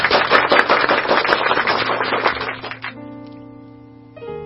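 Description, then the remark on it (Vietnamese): A crowd breaks into dense, lively applause welcoming the children at a Vietnamese program on the legend of the Kitchen God (Ông Táo), carrying on for about three seconds, then fading away, leaving soft sustained musical tones ringing underneath. “Xin chào mừng tất cả các bạn, các em thiếu nhi, một tràng pháo tay nồng nhiệt.”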